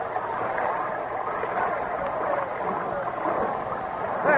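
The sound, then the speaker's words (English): Steamboat paddle wheels turn and churn through water in a steady, continuous wash of noise, fairly loud, with a brief swell at the very end, as the boat makes headway against the tide. “Paddles open wide. The paddles are turning.”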